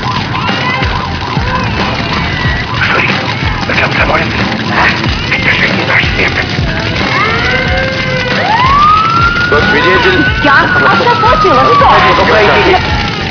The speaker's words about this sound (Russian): Три квартиры пылают в огне, звук сирен словно песенка льется.